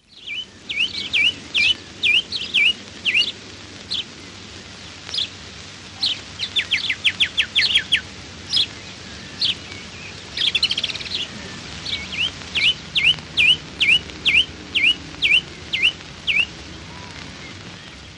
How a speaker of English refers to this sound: Song thrush, call note.